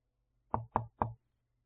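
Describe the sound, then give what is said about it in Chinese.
Three quick, evenly spaced knocks on a door as a plumber-electrician arrives, firm, with quiet room tone before and after and no voices. “水电工来了，我去开门”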